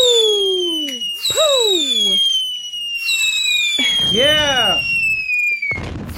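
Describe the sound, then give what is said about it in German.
Fireworks go off in a loud, continuous string: shrill whistling rockets glide and warble in pitch, punctuated by a few sharp crackling bursts, with a steady hiss underneath throughout. “Sendung Feuerwerk.”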